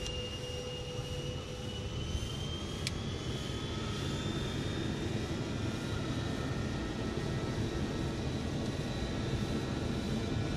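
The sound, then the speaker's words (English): A steady, loud roar of aircraft engines builds and holds, with a broad low rumble and rising high-pitched turbine whine running continuously throughout, as the aircraft, cleared for takeoff, begins its takeoff roll; no talking. “And we've been cleared for takeoff. We are clear for takeoff. Taking it on the roll.”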